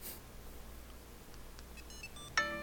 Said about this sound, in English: Success. Oh, wow. Oh, it's not. That is awesome. You rang your phone from OK button. Volume 69. I like that. Oh, you may need to turn your phone back up.